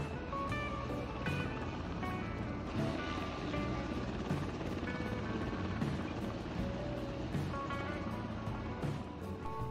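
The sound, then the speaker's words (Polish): A US military helicopter hovers level while ground crew manually lower its stuck front landing gear; its loud, steady rotor thump and turbine whine fill the whole recording without letup, with no voices heard. “Śmigłowiec amerykańskiego wojska miał problem z przednim podwoziem.”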